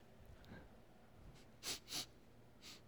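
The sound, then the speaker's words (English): A person imitates sniffing for smoke, giving a few quick, short sniffs through the nose: two close together, then a softer third, otherwise quiet with no talking. “Because they're sniffing.”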